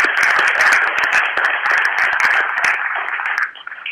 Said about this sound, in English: So let's give him one more round of applause.